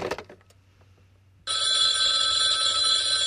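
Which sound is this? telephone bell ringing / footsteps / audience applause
telephone bell ringing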